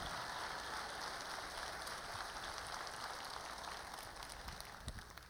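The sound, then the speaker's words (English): A crowd claps together in a dense, steady wash of many hands that runs the whole time, holding an even level and easing off only slightly at the end, with no talking. “Let's give Bo a round of applause.”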